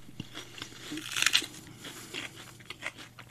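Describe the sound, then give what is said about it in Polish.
Someone bites into crunchy food with a loud crisp snap, then keeps chewing in a series of softer, irregular crunches with no talking. “Jakie chrupiące. Spróbuj”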